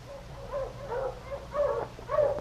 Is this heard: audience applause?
no